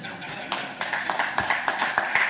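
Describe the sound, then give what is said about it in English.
Audience applause: a steady patter of many hands clapping at moderate volume, with sharper individual claps standing out every fraction of a second over the wash of noise, and no voices. “Could we hear an applause for that?”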